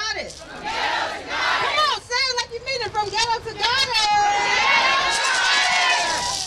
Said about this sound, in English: … led the crowd in an affirmation. She invoked Oshun, a Yoruba goddess associated with motherhood, and ended with this chant